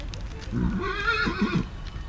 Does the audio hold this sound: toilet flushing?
no